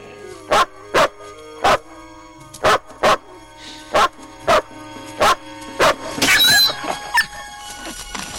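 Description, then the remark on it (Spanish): A dog, threatened by a man with a stick, barks sharply about ten times in a steady, rapid rhythm, loud, then breaks into a brief high-pitched yelping squeal before falling quiet. No one speaks. “Olís amenaza al perro con la vara.”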